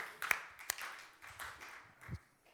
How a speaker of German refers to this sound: Ja, Moment, erstmal müssen wir nochmal für dich klatschen.